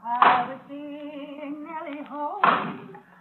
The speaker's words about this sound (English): That's Joe chopping wood out by the barn.